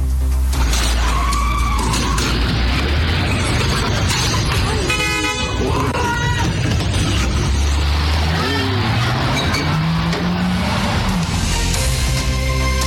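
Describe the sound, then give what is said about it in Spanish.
A woman reverses her car at high speed to stop thieves stealing it: loud, continuous engine roar rising in pitch, tires skidding, and a car horn honking, with a crash as the car hits the robbers and the front of a house, amid chaotic noise and indistinct voices underneath. “el video, porque habla por sí solo de la reacción de esta mujer echando marcha atrás su vehículo, chocando a los ladrones y evitando que le robaran su automóvil estos delincuentes.”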